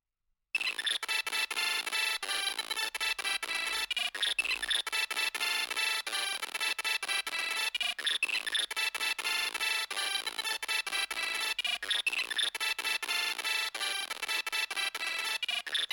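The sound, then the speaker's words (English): SID-style chiptune music plays from a SID player emulator on a Symbian cell phone, with slightly inaccurate emulation: bright, buzzy synthesized tones with a steady driving beat and a phrase that repeats every few seconds, continuous and fairly loud, with no talking. “The emulation's a bit off, but in a way, it's even cooler to have a SID player on my cell phone than on my Nintendo DS, since I don't go anywhere without the phone.”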